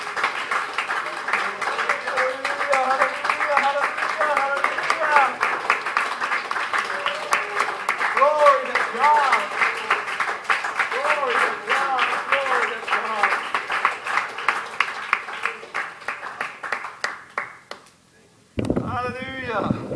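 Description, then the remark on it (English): A church audience claps steadily and loudly together in worship, praising God, while voices cry out and sing over the rhythm; the clapping gradually thins and fades, then a single voice begins speaking. “Worship him, give him praise, go and thank him, go and clap and praise his holy name, worship him, hallelujah.”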